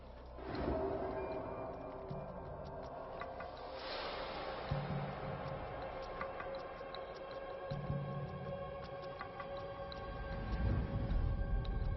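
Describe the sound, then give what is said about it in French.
An old buffalo, strayed from its herd and ambushed by a group of lions on a safari in Kenya, bellows in distress, giving several long, low, moaning calls for help that rise and swell over a steady droning background, loud, with no talking. “Les cris à l'aide du vieux buffle atteignent la horde distante.”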